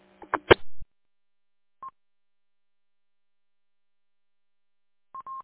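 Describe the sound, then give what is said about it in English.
A phone rings with a call from the speaker's CEO, with short electronic beeps: a brief clatter, then a single high beep, and after a pause a quick run of repeated tones. No one speaks. “I'm pretty much around you guys enough to know when their phones ring”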